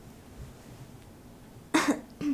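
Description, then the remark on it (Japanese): A sharp throat clearing bursts out after a quiet stretch, followed by a second shorter rasp at the very end. No talking. “咳払いしたいから、ちょっと一回。”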